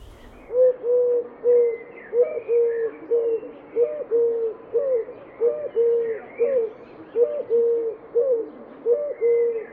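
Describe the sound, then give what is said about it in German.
A Eurasian collared dove coos steadily, repeating its soft, low three-note phrase in a regular rhythm, clear, with faint background birdsong and no talking. “Und die Türkentaube gurret vor sich hin.”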